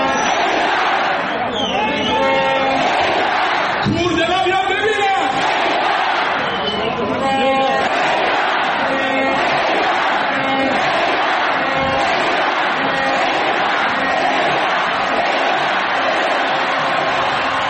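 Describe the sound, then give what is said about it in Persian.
Fans of the Mashhad football club Padideh roar and chant in unison in an Icelandic-style cheer, a loud, dense wall of many voices shouting together with rising calls, sustained throughout. “آها، میفرمایند سقوط نمیکنه چون طرفداراش ایسلندی تشویقش میکنن.”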